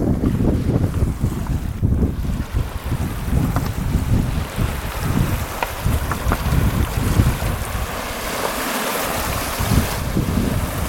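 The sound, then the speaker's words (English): Loch water laps steadily while gusty wind buffets the microphone, producing a continuous low rumble with small splashes scattered throughout. No voices. “It's getting a little bit windy now, so maybe there might be some wind over that. Lapping.”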